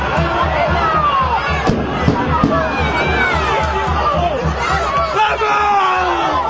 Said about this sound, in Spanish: Los gritos de los jugadores del Boiro dan buena cuenta de la importancia de este gol que les mete en la Copa del Rey